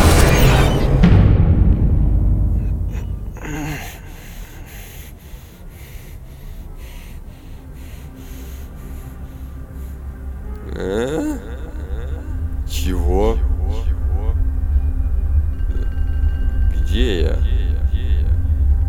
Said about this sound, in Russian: Осторожно, машина!